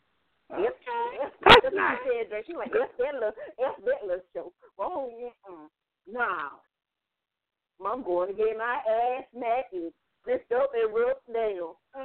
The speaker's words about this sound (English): That's that little dog.